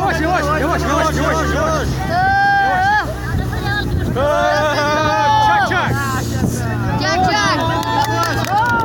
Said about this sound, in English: A rubber boat carrying 70 migrants, most of them children, touches land. For years now, this has been a regular occurrence on the Greek Aegean Islands, a gateway into Europe for migrants fleeing war and violence in the Middle East, Africa, elsewhere.